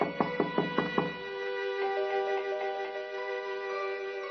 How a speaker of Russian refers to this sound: Заметив на узкой деревянной калитке имя Боунойз и глянув на часы, Кит увидел, что время, назначенное мудрецом, настало. Вошел и постучал в парадное.